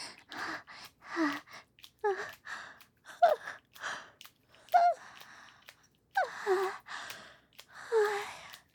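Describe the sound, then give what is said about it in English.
A string of breathy yawns, about eight in a row, each a long airy exhale ending in a soft voiced tone that slides downward. Moderately loud, with no speech. “Sorry, I keep yawning so much.”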